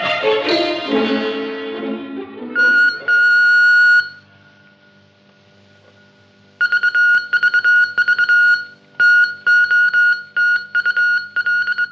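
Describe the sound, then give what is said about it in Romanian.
A loud electronic tone sweeps down, then a steady beep holds, and after a pause comes a string of sharp, uneven on-off beeps from a radio transmitter sending a message, with no voices. “Repede aparatul! Cei de sus așteaptă de 15 minute mesajul nostru.”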